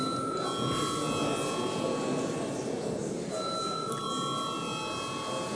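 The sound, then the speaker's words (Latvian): A continuous electric bell rings steadily for several seconds in the Latvian parliament (Saeima) chamber before a vote, a bright sustained buzzing tone with steady loudness and no talk over it. “Lūdzu zvanu.”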